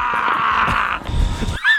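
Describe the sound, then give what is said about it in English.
A contestant in a Sasquatch calling contest bellows a long, hoarse Sasquatch call, a rough sustained yell for over a second that breaks off into a higher, wavering whoop at the end. “That was Sasquatch calling contest.”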